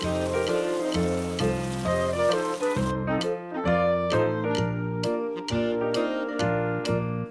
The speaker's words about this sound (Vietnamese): Mưa xuân. Tí tách, trời đổ cơn mưa, hạt giống gieo vui. Mưa đi, cho hạt nảy mầm.